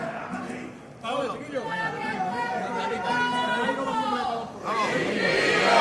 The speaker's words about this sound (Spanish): Y el público que está con ellos y se lo demuestran así, con esos gritos y esas palmas, para que noten que, bueno, a pesar de la hora, que seguramente tenían esa preocupación por ver cómo estaba.